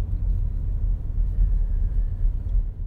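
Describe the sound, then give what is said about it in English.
A steady, heavy low rumble of downtown road traffic at 8th Street and Red River, with engine drone holding at a constant level for a few seconds and no voices present. “We're at 8th Street and Red River. Still lots of traffic.”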